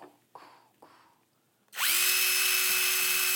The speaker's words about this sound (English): It's a power tool.